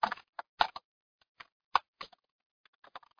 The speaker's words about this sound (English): And clearly, I am not the greatest at typing and talking at the same time, so I will try to type quickly in the fields that need to and keep going for you.